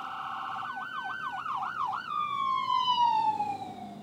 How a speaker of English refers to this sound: There goes the ambulance.